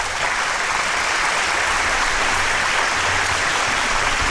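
Steady, dense applause from a crowd, many hands clapping at once in a continuous wash of sound that holds at an even, fairly loud level throughout.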